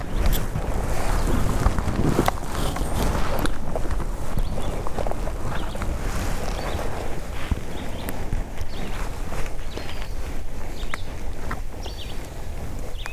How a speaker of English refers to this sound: All the shuffling sound that you hear for the next few minutes and you've heard for the past several seconds, that's me scooting my rear end around so that my left shoulder is pointing more towards the